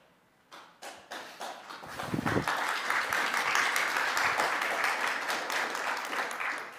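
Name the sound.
audience clapping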